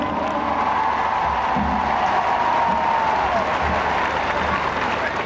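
A large crowd in Piazza San Carlo applauds and cheers steadily throughout, welcoming Pope Benedict XVI's Popemobile on its arrival, a dense wash of clapping with scattered shouts and welcome chants mixed in, loud and continuous without pause.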